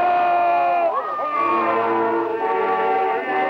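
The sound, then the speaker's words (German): A large crowd cheers and shouts steadily, many voices merging into a loud, continuous roar with rising and falling calls throughout. The cheering is in Berlin at the outbreak of the First World War in 1914. “Einstein konnte nicht in den Jubel einstimmen, der in Berlin herrschte.”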